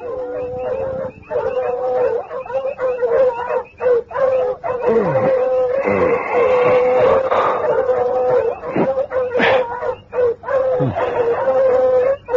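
Several dogs bark excitedly and howl together at night in the bush, in a loud, continuous, overlapping chorus, with sharp yelps breaking through sustained wailing tones and no one speaking.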